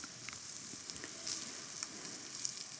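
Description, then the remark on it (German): Meat sears in a hot pan, contracting at once as a crust forms, with a steady, bright sizzle, scattered sharp pops and crackles dotting the hiss throughout. No one speaks. “Und hier sieht man schon, dass sich das sofort zusammenzieht, eine schöne Kruste entsteht.”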